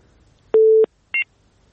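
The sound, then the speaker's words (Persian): A telephone line tone after a listener's call to a radio show drops: a steady low hum lasting about a third of a second, then a brief higher-pitched beep, clear with no voices. “بله شنونده ما قطع شد تلفنشون.”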